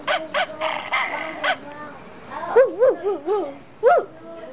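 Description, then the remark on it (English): A toy sound book plays a recorded dog: a run of quick harsh barks followed by several short, wavering whiny yelps, fairly loud with little else around it. “I found this book is also very interesting, isn't it? Look, the dog can make sound.”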